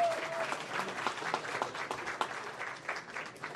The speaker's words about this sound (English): Oh, go ahead, clap.